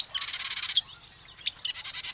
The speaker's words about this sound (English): Ready for a review? The marsh wren.